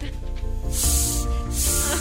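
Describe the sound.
A snake hisses twice in quick succession, two loud, breathy bursts of about half a second each, heard over a steady humming, voice-like tonal background.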